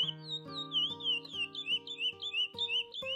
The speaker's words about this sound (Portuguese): Barulho de multidão desassossega seu coração, mas o canto do curió consola o menino só.